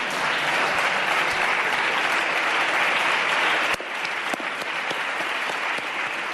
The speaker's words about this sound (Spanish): Es el turno de Ana Pastor y del Partido Popular, también aplaudiendo muy bien.